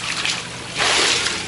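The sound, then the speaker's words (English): Water splashes and sloshes in a broad, hissing rush during a baptism by immersion, building sharply partway through as a person plunges under and resurfaces, with no talking over it. “I baptize you in the name of the Lord Jesus Christ.”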